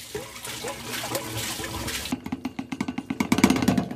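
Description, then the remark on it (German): A camper toilet cassette is emptied into the drain inlet of a disposal point at a motorhome site in Coburg. Liquid pours and gurgles steadily, then breaks into a rapid series of glugging splashes as the flow sputters out. No one speaks. “Also pass auf, ich sag's dir, Kassette am Einlaufstutzen entleeren. Also das heißt, von unserer Kassette musst du das jetzt da reinschütten.”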